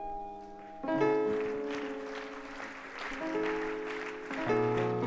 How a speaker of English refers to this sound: Come on, let's clap our hands unto the Lord. Come on, let's clap our hands unto the Lord.